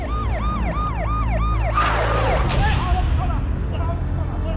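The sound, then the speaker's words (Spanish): An ambulance siren wails in a rapid rising-and-falling yelp, loud at first, then breaks off into a burst of traffic noise as fainter siren sweeps continue in the background. “Los secuestradores lo interceptan con una camioneta, una que habían disfrazado de ambulancia, y se lo llevaron.”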